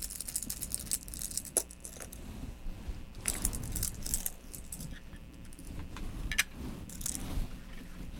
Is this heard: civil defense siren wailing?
no